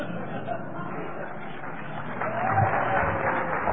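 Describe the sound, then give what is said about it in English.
An audience at a debate claps together in a dense, steady patter of applause that carries on throughout and swells a little louder toward the end. “I'd ask you to keep the applause.”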